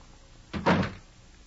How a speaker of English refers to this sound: After closing the door, Van Helsing opened the note and read.